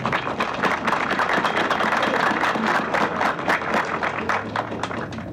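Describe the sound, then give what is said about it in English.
An audience applauds the people just introduced, steadily for several seconds, many hands clapping in a dense, even patter that holds at a fairly loud level throughout, with no voices breaking through. “At this time, let's give these people a round of applause, please.”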